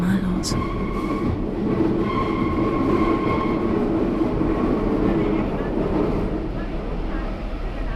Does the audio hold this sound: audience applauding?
no